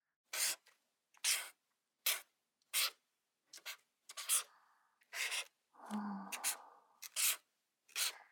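A felt-tip pen squeaks and scratches across a playing card, the five of diamonds, in short, quick strokes as a dog and a cat are drawn on it, a dozen or so bursts with brief pauses between them, fairly quiet, no voices.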